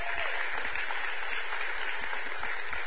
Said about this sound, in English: So, well, y'all, big round of applause for tithes and offerings.